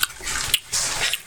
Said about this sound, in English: Who's chewing now?